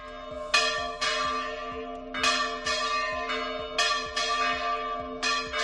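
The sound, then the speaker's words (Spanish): Village church bells in Aragón peal at midday in an irregular, overlapping cascade of bright strikes, several bells ringing together with long sustained hum, loud, with no voices present. “Este mediodía las campanas de la iglesia de muchos pueblos de Aragón han repicado en lo que se podría considerar una especie de toque de esperanza por el mundo rural.”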